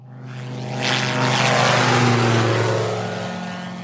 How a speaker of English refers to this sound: That afternoon, we went to Sitara Airfield to meet a microlite aircraft called a Bathawk. It's an open cockpit machine with a single engine, and it has proved a vital tool in the war against poachers.